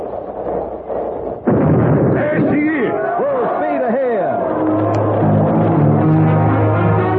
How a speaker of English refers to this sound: You see ashore over there, the flag lowering. Engine room, stand by. Standing by. When the flag gets to the bottom of the pole, they fire the cannon, and we'll be on our way.